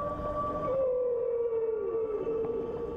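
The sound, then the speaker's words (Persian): A long, sustained underwater moan of a humpback whale's song slowly glides downward in pitch, steady and fairly loud against a dull, rumbling background, carrying through the water. “این صداهای شگفت‌انگیز از نهنگ‌های گوش پشت در سراسر آب پخش میشه.”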